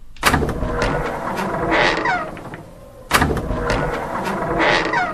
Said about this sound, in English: An open door. This is the sound you want to hear. It is the higher pitched version of the closed door sound. A door opens as a result of pressing a button. It is unlikely you will hear this sound unless the door and button are close to each other.